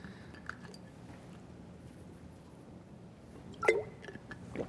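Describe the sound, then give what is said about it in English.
Someone drinks coconut water, with faint wet mouth sounds and then a single distinct, fairly loud gulp near the end. No one speaks. “Excuse me. I need a drink.”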